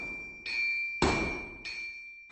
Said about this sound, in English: Anvils are iron blocks that blacksmiths would use to make metal things, like shovels. You have to bang on the metal, and the sound is very loud, like this.